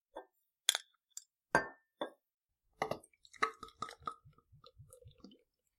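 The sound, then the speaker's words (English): A bottle of tart, sour, highly carbonated beer is opened at the Quiet End with a few sharp clinks and a hiss-like burst, then poured in a quick run of rhythmic, low gurgling glugs. No one speaks. “All right, let's open it up.”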